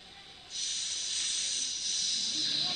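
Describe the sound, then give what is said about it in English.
A snake's hiss swells in suddenly after a short pause and holds steady, a loud, breathy, continuous sound with no talking. “Saw the snake was coming.”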